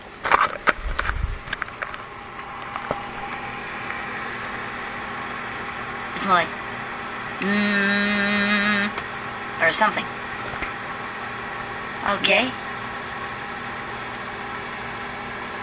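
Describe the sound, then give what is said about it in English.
Steady low mechanical hum of a running refrigerator, recorded with the recorder stuck inside the refrigerator, with a louder buzzing tone swelling in briefly midway, a few rustling bumps, and a voice murmuring a few words. “Now, we're going to actually stick our heads into the refrigerator.”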